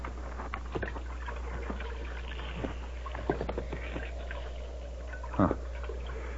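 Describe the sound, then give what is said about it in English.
Shallow water sloshes and splashes in a trough holding not much water, with irregular small laps and a couple of sharper splashes over a steady low hum. No one speaks. “Not much water in the trough.”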